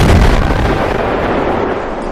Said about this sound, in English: Suddenly, there was a loud blast.